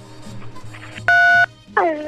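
One loud, steady telephone keypad beep lasting about a third of a second rises over a faint background murmur, and then a voice starts speaking.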